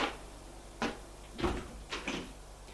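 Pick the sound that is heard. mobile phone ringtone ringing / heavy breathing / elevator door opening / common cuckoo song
elevator door opening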